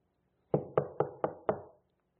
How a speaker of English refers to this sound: and we're just kind of leapfrogging and doing different houses and things, and we knock on that very first door, and nobody comes to it.